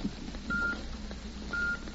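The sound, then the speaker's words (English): Two short, steady electronic beeps at a fairly high pitch, evenly spaced one second apart, a time signal produced by an electrical impulse originating in the observatory of the Elgin Watch Company, sounding over a low background hum and hiss. “The electrical impulse that produced that steady beep, beep, beep had its origin in the famed observatory of the Elgin Watch Company”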